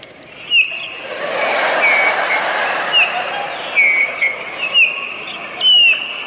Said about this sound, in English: Listen to the birds.